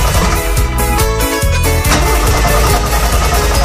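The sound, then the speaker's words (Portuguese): A tractor-trailer truck engine cranks over and catches as the driver tests the truck, then revs loudly and unevenly, its heavy rumble rising and falling steadily without any voices. “Ele deu licença para dirigir o caminhão hoje. É. Então, Salgado, vá, testa o carro aí”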